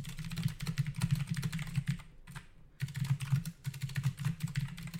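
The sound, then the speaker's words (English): Rapid, steady typing on a computer keyboard as a reply message is written, a dense stream of light clicking keystrokes that pauses briefly midway before resuming, over a low constant hum. No one speaks. “Well, I'm just gonna type the response now.”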